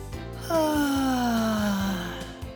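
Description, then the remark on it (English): One long, drawn-out yawn, voiced, sliding slowly downward in pitch for over a second before trailing off, with a soft steady background bed underneath. “And that was the last nighttime noise Benji heard, a great big yawn.”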